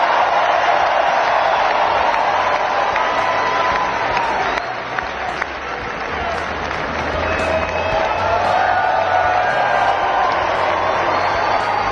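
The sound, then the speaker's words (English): A large crowd at Capital One Arena, at Donald Trump's event after he was sworn in, roars and cheers continuously for the whole stretch, a dense wall of screaming voices and applause with no pauses, loud and reverberant. “You can hear the crowd screaming.”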